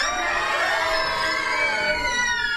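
An audience of children screams together on cue during a story reading, in one loud, sustained, high-pitched burst, many shrill voices overlapping into a steady wail that holds for a couple of seconds.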